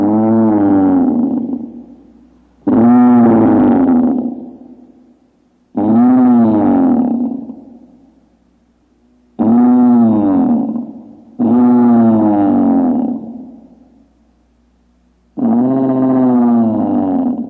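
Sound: tyrannosaurus roar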